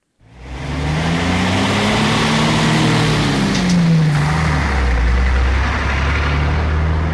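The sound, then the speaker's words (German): Heavy trucks rumble past on a busy motorway, a loud continuous roar of engines with rising and falling low tones as vehicles pass, no voices. “Die Lastwagen, die Autobahn.”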